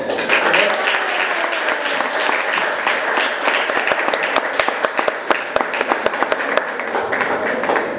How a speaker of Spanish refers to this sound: Y así que quiero que me ayuden a recibir con un fuerte aplauso, por favor, a la licenciada en Ciencias de la Comunicación, Leticia Bárcenas.